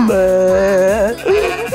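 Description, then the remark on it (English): A sheep bleats loudly, a long wavering cry with a shaky, vibrating tone that fills the whole moment, with no talking over it. “Look at this sheep!”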